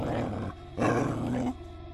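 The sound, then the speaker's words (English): A puppy named Chance growls at a group of cats, loud, a low rumbling snarl that swells in two or three surges over a couple of seconds, with no voices. “He growled for good measure.”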